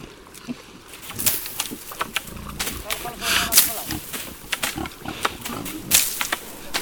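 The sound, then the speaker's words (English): Iberian pigs grunting and snorting in an oak pasture among holm oaks and cork oaks in Cabañeros Park, with irregular short bursts of rooting noises and rustling scattered over steady low background ambience. “The Iberian pig is the domestic animal that best represents the pasture's landscape in Cabañeros Park.”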